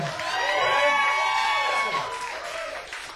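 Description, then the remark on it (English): A small audience at a live music performance cheers and whoops, with overlapping excited voices rising into high shouts. The sustained noise swells early, then tapers slightly toward the end. “A small but perfectly formed crowd.”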